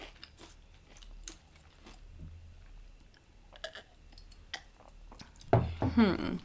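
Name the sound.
chewing crunchy potato chips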